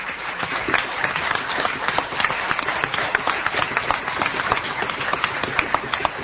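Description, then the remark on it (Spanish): A crowd applauds Enrique Aguerre, director of the Museo Nacional de Artes Visuales, as he leaves: many hands clapping in a dense, even wash of sharp crackling bursts that holds at a fairly loud level throughout, with no one speaking over it. “¿Qué tal si nos despedimos del director del Museo Nacional de Artes Visuales, Enrique Aguerre, con un aplauso?”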